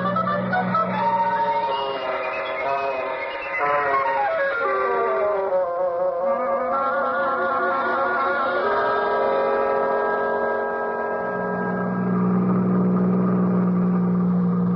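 A car engine drones steadily and loudly, its pitch rising and gliding partway through before settling into a sustained hum, with no talking.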